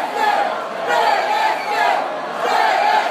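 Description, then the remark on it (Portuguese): A dense crowd of voices shouts and chants in loud, overlapping waves that rise and fall roughly every second. Rival political supporters, the blue side and the orange PSD team, yell back and forth at each other at the food and drinks pavilion. “Os azuis gritaram, os laranjas responderam.”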